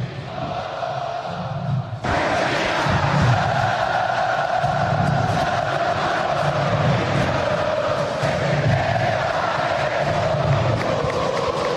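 A large crowd of Internacional football fans at the Beira-Rio stadium roars and cheers as their team leads Vasco da Gama 4-0, swelling suddenly after a quieter opening to a loud, steady mass of voices with rhythmic low chanting pulses underneath.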